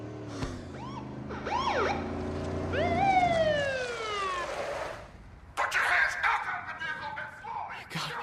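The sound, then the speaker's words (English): A police siren wails in rising and falling sweeps, loud, as police arrive, then cuts off abruptly into a burst of rough noise and commotion. “He nods agreeably at Teddy, who just flops his head back as the police arrive.”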